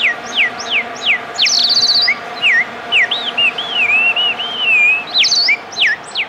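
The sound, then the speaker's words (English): Loud bird chirping sound effect: a rapid series of sweeping, whistled tweets and trills repeating over several seconds with no one talking. “every time you play the bird sound effect, it freaks out my dog.”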